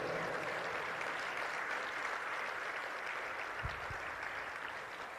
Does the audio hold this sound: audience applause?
yes